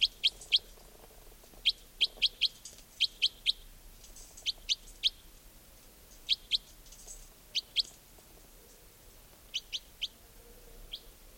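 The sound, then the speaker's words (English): A wild bird up in the tops of larch trees repeats sharp, high chirps in quick bursts of two or three, with short pauses between the bursts, over a soft low background hum and no voices. “They may have all taken off completely, but I've got a feeling there might be a bird or two nearby.”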